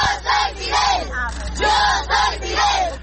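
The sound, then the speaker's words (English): A crowd of children lining a street in Santiago de Cuba shouts a rhythmic chant in unison, "Yo soy Fidel" ("I am Fidel"), repeating the phrase several times, loud, with a steady low hum of outdoor noise underneath. “These children line the streets of Santiago de Cuba shouting, "Yo soy Fidel,"”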